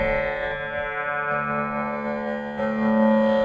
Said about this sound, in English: The instrument that I'm playing right now is called a tambora.